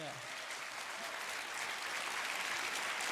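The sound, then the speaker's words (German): Steady applause from an audience fills the hall, a dense, even patter of many hands clapping at constant loudness throughout, with no voices standing out. “Applaus im Saal.”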